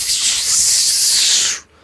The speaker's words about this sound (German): Du guckst dahin, du versuchst diese Worte zu formen, aber du hörst nur eine Art Zischen. Das Wesen dreht sich auch zu dir und zischt zurück.